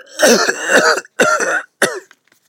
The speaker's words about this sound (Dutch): En je moet ook hoesten.